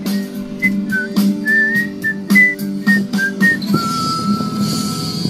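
Someone whistles a short, bouncy tune of distinct rising and falling notes, close and clear, over a steady low background hum, ending on a longer held tone.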